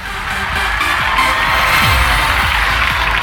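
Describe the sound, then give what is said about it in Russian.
A burst of steady, dense applause, marking a winner of a pizza prize from the food delivery service «Любимый город», fills the whole few seconds at a loud, even level, with a crowd-like wash and a few faint whoops mixed in beneath the clapping. “эти аплодисменты говорят о том, что ты выигрываешь вкуснейшую пиццу от доставки еды «Любимый город».”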